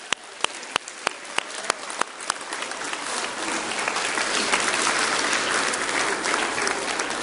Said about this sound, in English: Hey, can we applaud what God's doing here?